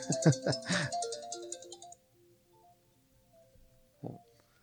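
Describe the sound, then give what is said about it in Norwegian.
A mobile phone ringtone plays a short, bright electronic melody for about two seconds, then cuts off, leaving quiet background with a brief low sound near the end. “Og ja, skal jeg bare, nå ringer telefonen.”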